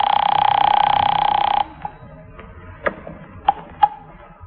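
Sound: telephone ringing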